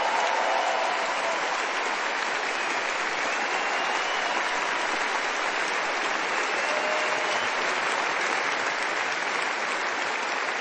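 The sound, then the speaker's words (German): A large audience applauds steadily, a dense wash of clapping hands that stays loud and even for about ten seconds without any talking. “Applaus.”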